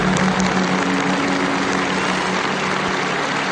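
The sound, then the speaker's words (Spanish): Sustained applause from a large crowd in the square at St. Peter's Basilica, breaking the silence as Pope Francis's coffin is carried from the Santa Marta residence to the Basilica. A dense, steady wash of clapping at an even loudness throughout, with no voices standing out. “El silencio durante el traslado del féretro desde la residencia de Santa Marta hasta la Basílica, que se ha roto con estos aplausos de las personas que entre fuertes medidas de seguridad han podido acceder a esa plaza.”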